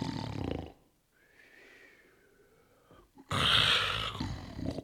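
A man snores loudly and raspily during a lunch-break nap, with a harsh rasping inhale, a quieter whistling exhale in between, then another loud, rough snore. No talking.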